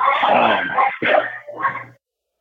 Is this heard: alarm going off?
no